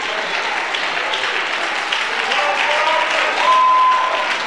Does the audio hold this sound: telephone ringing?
no